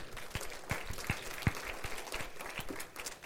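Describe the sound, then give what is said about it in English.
A crowd gives a clap offering, applauding with steady, dense clapping, individual sharp claps standing out irregularly over a continuous wash of hand noise at moderate volume throughout. “Can we give him a clap offering?”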